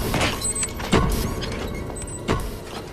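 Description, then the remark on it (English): Lift doors slide open with a steady mechanical whir, a faint high whine coming and going, and two dull thumps as they move and settle. No voices. “The lift doors open, and he stands, shrouded in cigar smoke.”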